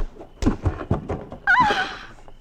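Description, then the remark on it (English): A man's body thuds heavily against the ground several times in quick, uneven succession during a fistfight, loud, followed by a sharp pained cry from the man. “the ground is thumping me from one side and Bunn's hammering me from the other”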